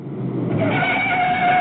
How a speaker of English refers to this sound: Like the car crash. I think I got the car crash. Classic car crash. Here we go.